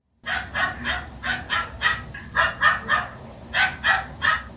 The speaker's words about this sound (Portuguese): Queria muito ouvir os barulhos da minha rua, mesmo aqueles que não deixam o meu pai descansar. Queria conhecer a voz dos meus amigos cães.